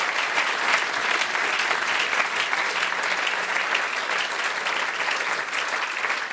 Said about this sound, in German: Ja, danke schön fürs Erzählen. Bleib bei uns in der Runde. Das ist dein Applaus, Michael Schlicksup.